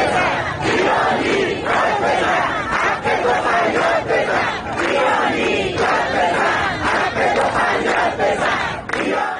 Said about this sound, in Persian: آنها پنج شنبه روبروی استانداری جمع شدند و حق مسلم خود را فریاد زدند. آب، برق، زندگی. بنابر آنچه در شبکه‌های اجتماعی منتشر شده، معترضان تا تاریک شدن هوا در خیابان‌ها ماندند و شعار دادند.